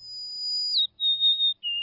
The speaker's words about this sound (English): And the sweet, clear whistles of the golden-crowned sparrow.